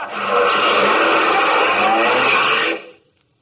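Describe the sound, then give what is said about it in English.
A loud racing car engine roars steadily for close to three seconds, a dense, unbroken whine with no voices, then cuts off abruptly into silence. “Other fella had a better car.”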